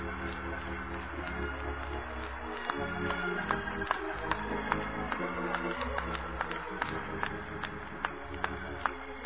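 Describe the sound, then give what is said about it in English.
An audience claps for the Lord during a church sermon in a steady rhythm, sharp beats roughly twice a second, over sustained organ-like music. The clapping starts a few seconds in and continues to the end. “Give the Lord a hand clap before you see him.”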